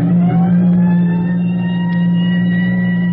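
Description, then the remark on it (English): A fire siren on the roof of a firehouse roars a fire alarm loudly and steadily, its deep droning wail holding a constant pitch throughout with no voices over it. “As the siren on the roof of the firehouse roars its warning, volunteer firemen all over the district drop whatever they're doing, wherever they are, check with the phone operator for the location of the fire”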